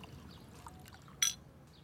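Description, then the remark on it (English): Sake trickles softly into a cup over a low, quiet background, with a brief bright clink partway through as the bottle touches the rim. No one speaks. “More sake?”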